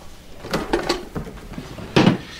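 A drawer is pulled open nearby, its contents rattling and clattering in a few quick bursts, followed by a louder knock as something is picked out. No one speaks.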